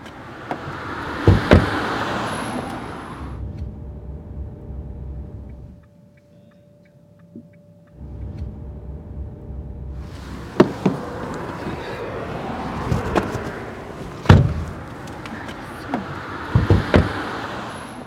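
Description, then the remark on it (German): Car doors thud shut amid outdoor traffic noise as people get out of a car at a bridge over a canal, then things go quiet with a faint steady hum before the street sound swells back and more door clunks follow. “Jetzt sind wir raus aus dem Auto und da an der Brücke, unserer Maurinbrücke,”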